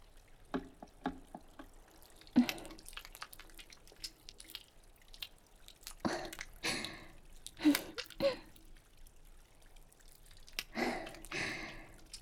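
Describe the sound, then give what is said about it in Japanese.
Wet squelching of hands working soap and water into a lather, done by hand instead of with a brush, coming in irregular bursts with soft drips and quiet pauses between. No voices. “泡立ちは落ちるけど、手で洗うことにしましょうか。”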